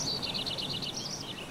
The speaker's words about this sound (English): Search for Deep Sleepscapes on the BBC Sounds app and drift off to the ambience of a woodland walk.